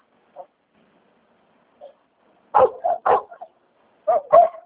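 A dog barks in a quick, close series of sharp woofs after two faint early yips, with the barks coming in two bursts separated by a brief pause.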